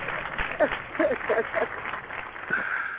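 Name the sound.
applause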